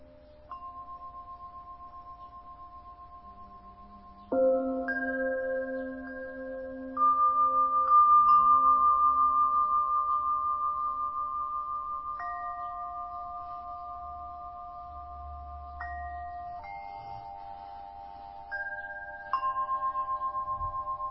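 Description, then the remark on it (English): Meditation bells ring out one after another, about five or six clear, sustained metallic tones that overlap and slowly fade, with no talking. A softer steady tone hums before the first strike. “Notice again how the bells and the sensations are an object that you are looking at.”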